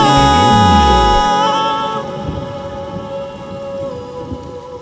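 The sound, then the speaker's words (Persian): A deep, loud rumble of thunder opens and fades within the first second or so, then steady rain hisses on, with faint sustained musical tones humming underneath. “هوا بارونیه اما نه هم اندازه یه چشمام”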